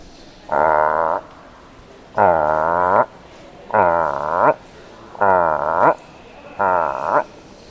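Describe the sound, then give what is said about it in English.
A person imitates a frog with five loud, drawn-out croaking calls, each about half a second to a second long, evenly spaced with short pauses between them. “Can I say, make the frog sound? Of course.”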